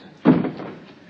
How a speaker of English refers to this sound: Come in, shut the door.